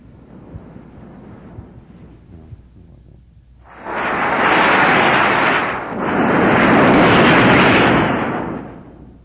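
Two loud, steady bursts of pink noise, a dense rushing hiss back to back with a brief dip between them, following a few seconds of quieter low rumble.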